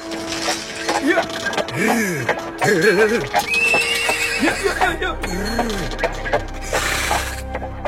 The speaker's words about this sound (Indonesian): Sementara Ki Lurah dengan tegap dan penuh semangat menggenggam tali kekang kudanya. Dan gerobak kuda terus bergerak ke arah desa-desa yang tersebar di kaki Gunung Merapi.